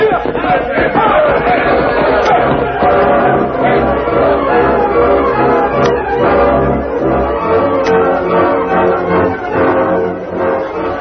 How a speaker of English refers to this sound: Inside the fortified stagecoach station, the Lone Ranger, having returned from Rock City, heard the distant war cries and shouted, Here they come.